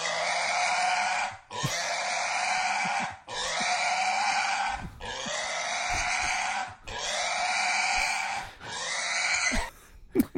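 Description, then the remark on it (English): A giant pig squeals loudly and continuously in long, shrill, piercing bursts while being held and petted, about six of them broken by brief gaps for breath, with no talking. “That was a pig crying.”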